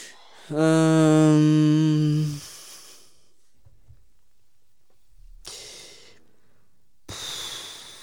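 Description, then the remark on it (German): Heavy, loud breathing of a man thinking hard: a long voiced sighing exhale, a pause, then two more noisy, breathy breaths, with no talking. “Das ist sehr anstrengend für ihn, deswegen atmet er so laut.”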